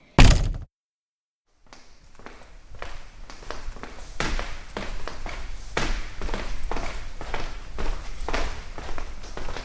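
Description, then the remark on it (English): A door shuts with a single loud thunk, followed by a moment of silence and then a steady series of quieter footsteps and light taps moving around. “Just close the door and nobody will know we're gone.”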